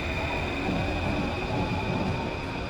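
A metro train rolls along the rails with a steady, loud rumble and a faint high-pitched whine running throughout, no voices present.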